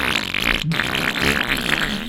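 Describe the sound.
A person blows loud, wet raspberry fart noises with their mouth as a jingle for the Obscene Green segment, a sustained sputtering buzz with a brief break partway through, with no speech.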